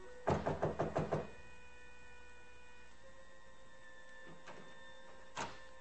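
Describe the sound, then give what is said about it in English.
A quick run of about six sharp knocks on the door of a suite, distinct, followed by a steady low hum and a single faint knock near the end, after no answer. “I finally went down to Helen's suite to pick her up. She didn't answer, so I tried again.”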